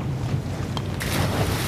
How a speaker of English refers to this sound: And the waves are so high, and the wind is so strong, and he's trying and trying to keep us afloat, but the boat is already so damaged from going under.